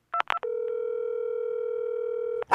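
A few quick touch-tone beeps are followed by a steady, loud telephone tone that holds for about two seconds, with no one talking over it.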